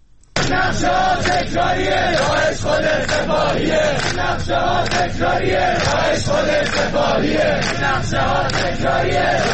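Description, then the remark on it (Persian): A large crowd of protesting students in several cities, including Tehran, Iran, shouts in unison, loud and sustained, with rhythmic bursts of chanting that rise and fall steadily over the whole stretch. “دانشجویان در چند شهر از جمله تهران فریاد زدند که حکومت و سپاه را عامل حمله به شاه چراغ می‌دانند.”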